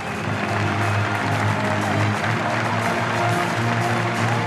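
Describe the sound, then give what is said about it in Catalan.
A large stadium crowd at Villarreal CF applauds steadily as Santi Cazorla appears smiling in a Villarreal kit on a Villarreal crest display, a dense wash of clapping from the whole stand with a low rumble of voices underneath, sustained and loud throughout. “en un escut del Vila-Real Club de Futbol, i ahí apareixia don Santiago Cazorla, somrient, vestit del Vila-Real, i rebia l'aplaudiment de tota la grada.”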